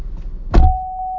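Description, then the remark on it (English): A car door slams shut with a single solid, low thump, followed by a steady high electronic chime that continues under the engine's idle hum. “Close that door better.”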